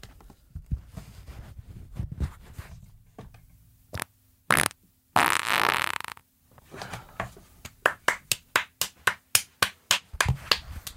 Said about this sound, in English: Climbed onto the table. On all fours. I don't know why the past two podcasts have been me farting into the mic. I'll stop after this one, I promise. It'll be the farting saga.